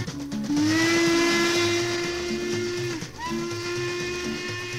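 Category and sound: vehicle, steam locomotive whistle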